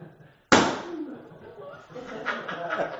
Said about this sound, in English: But, you know, the whole balloon popped, even with that little hole.